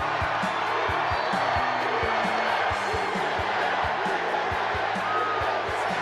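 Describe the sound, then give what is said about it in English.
A huge crowd at a political rally in Gastonia roars and cheers continuously, a dense wash of voices filling the space, with rhythmic low thumping and clapping running underneath the whole time. “This is one hell of a big crowd.”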